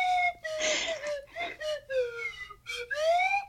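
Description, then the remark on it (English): A slide whistle plays a short melody, the wedding march: a handful of sustained, wavering notes joined by swooping pitch slides, with breathy bursts between phrases. It is fairly loud and plays without any talking. “maybe that's the way we go out, just with the little slide whistle music.”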